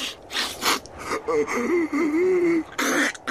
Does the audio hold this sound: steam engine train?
no